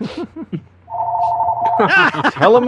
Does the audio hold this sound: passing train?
no